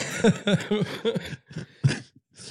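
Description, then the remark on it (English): Two people cough-laughing while getting over an illness, one with laryngitis: a rhythmic burst of breathy laughter broken up by coughs, about four quick pulses, then a couple of scattered coughing chuckles trailing off. “we're both cough laughing because we're it coming over.”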